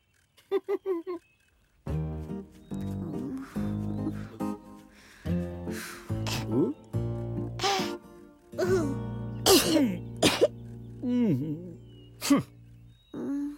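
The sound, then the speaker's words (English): The character Noxu coughs: a quick run of short coughs opens, followed by a longer stretch of harsh, throaty coughing bursts mixed with groans and gasps, loud, with a steady tonal backing underneath. “Noxu, cover your cough.”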